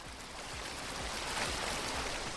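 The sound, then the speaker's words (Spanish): The Guadalmedina river rushes through its bed in a steady, dense roar of churning water, continuous with no pauses. The water is muddy brown and carries along debris. There are no voices. “Y este es el sonido que nos deja hasta ahora este cauce del río Guadalmedina.”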